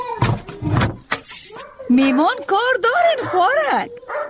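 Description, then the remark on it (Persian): A dog barks twice in sharp, loud bursts, then breaks into a drawn-out series of high, wavering whines and yelps that rise and fall in pitch. “امی سگه که تا بگی که یک دفعه نگیریم چخه گم شو”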